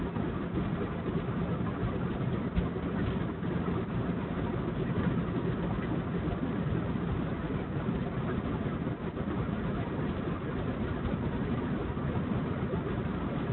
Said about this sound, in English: It's raining right now. It's amazing. Got a lot of good rain going on here. Chicken got rained on quite well.